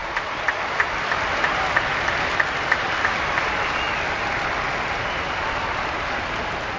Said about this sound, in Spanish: En la fiesta de los abuelos de Jesús, San Joaquín y Santa Ana, el Papa promovió este aplauso para los abuelos.